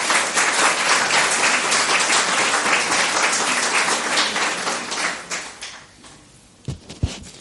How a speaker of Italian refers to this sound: Io vi chiedo soltanto di accoglierli con un applauso e diamo subito la parola a Luigi Zoia.